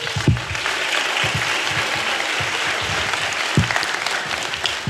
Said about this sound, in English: So everybody, big round of applause for Michelle.